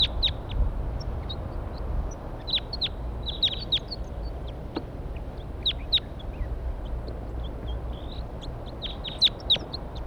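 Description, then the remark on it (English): Wild birds perched in a pine tree above where a net is being set up call in scattered bursts of short, high chirps and twitters throughout, some clustered and quick, over a steady low rumble. No one speaks. “Wild birds.”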